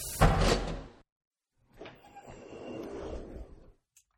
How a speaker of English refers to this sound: The keypad scanner beeped, the door slid open, and my jaw hit the ground.